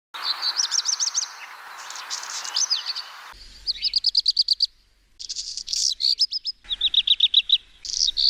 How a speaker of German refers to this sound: Und so hört sich der Hausrotschwanz an.